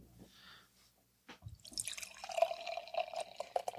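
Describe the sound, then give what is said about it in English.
Beer pours and splashes from about the midpoint onward, partly spilling onto someone's legs, a steady trickling stream with dripping spatters, moderately loud after a brief quiet stretch. “Pouring some of my legs, wow. Getting drunk.”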